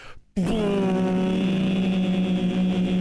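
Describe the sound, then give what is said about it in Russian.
A voice imitates a steamship horn with one long, loud, steady low hoot, signalling the steamship's arrival in Yokohama. It starts abruptly after a brief quiet moment and holds an unwavering pitch to the end. “Нет, это гудок о том, что пароход наш приплыл в Йокогаму.”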